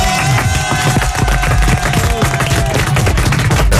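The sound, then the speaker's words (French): Loud, dense applause from a crowd, a steady wash of many hands clapping at once with sharp individual claps poking through, sustained for the whole few seconds, applauding a departing guest on a radio morning show. “Applaudissements pour ….”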